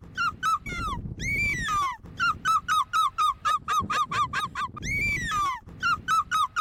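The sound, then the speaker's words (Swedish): A woman imitates a seagull's screech, training for a European Championship in gull screeching, repeating short sharp calls in rapid bursts with a couple of longer drawn-out wails, loud, with no talking. “Men hon är alltså då i hårdträning för EM i måsskrik.”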